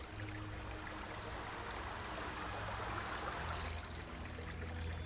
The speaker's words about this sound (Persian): سرعت آب یکم زیاده.